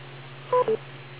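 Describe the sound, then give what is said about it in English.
A call-in beep: two quick electronic tones in rapid succession, the second slightly lower, heard over a steady low hum on a thin, telephone-like line, signalling a caller to go ahead with a comment. No one speaks. “wait a couple seconds after the beep and go right ahead with your comment”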